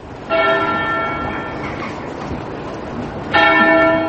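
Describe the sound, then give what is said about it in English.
Two deep, resonant church bell strikes about three seconds apart in the English village of Wootton Bassett, tolling for Britain's recently fallen soldiers. Each strike has a rich shimmering ring that slowly decays, heard loud over a faint outdoor background with no speech. “The church bells of the English village of Wootton Bassett toll for Britain's recent falling.”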